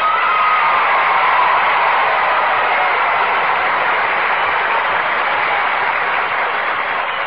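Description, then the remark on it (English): A sustained round of audience applause for the radio programme Let's Pretend, dense and steady, holding at a strong level for several seconds with no voices over it before tapering slightly at the end. “Well, now, that's a mighty fine round of applause.”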